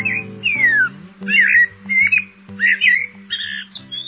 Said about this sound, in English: Eurasian blackbirds are common in the gardens and throughout the countryside in Great Britain.